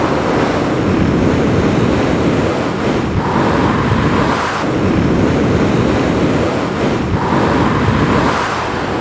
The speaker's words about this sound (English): Yes, the wind whistles across the plain, but apart from that, the lake lies silent most of the time.